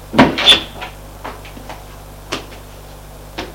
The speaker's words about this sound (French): Mathieu a ouvert une pièce, une porte, le fait rentrer.